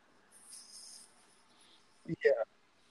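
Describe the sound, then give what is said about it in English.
Someone mimics a cricket with a thin, high-pitched chirping trill lasting about a second, then makes a couple of short, breathy vocal bursts. “Yeah, that's what I was trying to do. The little cricket.”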